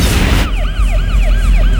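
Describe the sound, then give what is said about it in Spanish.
Fire truck sirens wail loudly, their pitch sweeping up and down in quick repeated cycles over a low rumble, after a brief burst of harsh noise at the start, as a fire truck comes to put out a fire coming from another truck. “Fuera las sirenas decían hola. Camión de bomberos llorando para apagar el fuego que salía del otro camión.”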